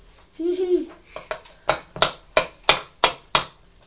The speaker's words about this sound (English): no banging, please. A little bang. No, not even a little bang. Mummy doesn't like it. Not a little bang. No. When you've got a fork in your hand, it's for eating your food with. I've given it to you to eat your sausages. It's not for banging